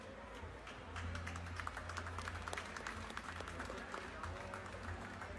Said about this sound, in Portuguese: Com carinho e uma salva de palmas, chamamos o senhor Virgílio Matias da Rosa, secretário municipal de obras.